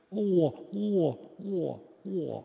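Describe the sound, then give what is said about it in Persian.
A person imitates a pigeon's coo with their voice, four throaty, swooping calls repeated in a steady rhythm, fairly loud with short pauses between. “این صدای کبوتره.”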